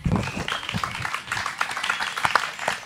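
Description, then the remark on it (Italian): A crowd at a panel event applauds steadily for the 50th anniversary of Amnesty International Italy, with dense overlapping claps and some voices mixed in, sustained throughout. “Intanto un applauso speciale per i 50 anni di Amnesty Italia.”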